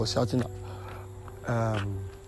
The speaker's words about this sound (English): And I'm very sorry again for the cricket sounds.